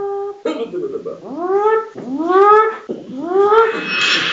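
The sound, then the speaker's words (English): A voice imitates a red alert alarm with three loud, rising whooping wails in a row, each sweeping upward in pitch before cutting off, with a brief noisy burst before the first. “That's my best red alert.”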